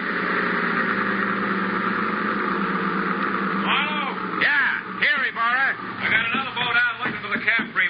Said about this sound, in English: That boat coming in